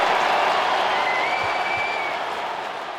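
A large arena crowd at SAP Center in San Jose applauds steadily after Ovechkin's career goal number 887 puts Washington up 5-1, a dense wash of clapping that stays loud throughout and eases slightly toward the end, with no talking over it.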